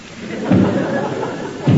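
Two heavy, booming thuds land a little over a second apart, like a sledgehammer pounding a wall, with a low rumbling wash of noise between the blows.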